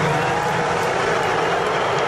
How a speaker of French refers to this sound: Voilà, des huées. Il a été largement hué, le président. On a aussi entendu des « lock him up, enfermez-le, enfermez-le ».